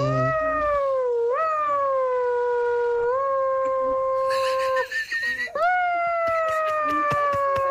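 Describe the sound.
A voice imitates a vacuum cleaner with a loud, sustained, siren-like wail that swoops up in pitch several times and holds steady between the rises, with a short breathy break near the end.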